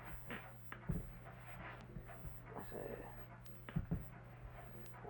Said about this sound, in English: Now, an animal's barking out in front. That would probably be a. Outlet. There's an animal. You heard an animal barking outside. You'd say that's probably a. Dog.